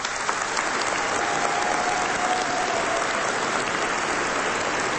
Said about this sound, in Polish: Są z nami słuchacze Radia Maryja, których chcemy także bardzo gorąco i serdecznie pozdrowić, a uczynimy to gorącymi oklaskami.